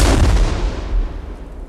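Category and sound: impact, cannon fire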